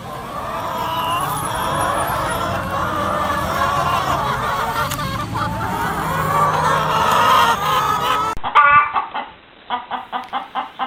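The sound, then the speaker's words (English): A hen clucks steadily amid a noisy, busy background, with a burst of sharper, repeated clucks near the end, fairly loud. “And now it's the last bird.”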